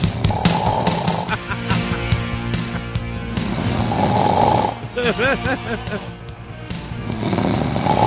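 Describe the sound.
A tape recording of a man snoring loudly in ragged, rasping bursts, with voices talking over the noise throughout.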